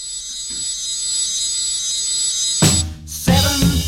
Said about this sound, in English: 7:38, it's time to wake. The alarm clock rings and turns my dreams to daylight.